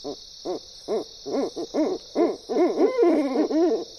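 Owls hoot in a quick series of short, rising-and-falling calls that grow denser and overlap toward the end, as if several birds are calling together, with no voices present.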